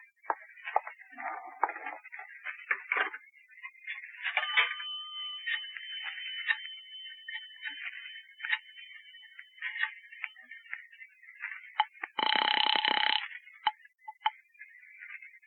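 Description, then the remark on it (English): A telephone at a drug store being dialed, with bursts of quick mechanical clicks in uneven groups, moderately loud, ending in a brief, dense buzzing tone near the end. No one speaks. “Where's your phone?”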